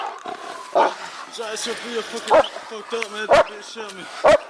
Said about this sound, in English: And I hear my dog yelping